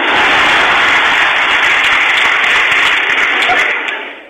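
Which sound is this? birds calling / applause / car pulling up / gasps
applause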